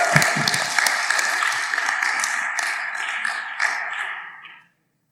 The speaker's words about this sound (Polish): Zacznij klaskać, bo dłużej już nie ma